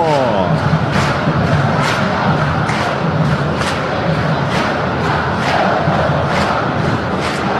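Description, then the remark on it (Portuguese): A huge crowd of fans in a packed arena, filled with black and white, sings and chants loudly and continuously, with steady rhythmic claps or drum thumps beating under the massed voices, unbroken throughout. “Eu quero ouvir essa galera cantando, sente o clima, sente a energia.”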